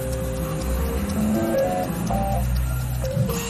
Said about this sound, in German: gehören in einen 3D-Drucker von RevoFoods, der gerade veganen Lachs produziert.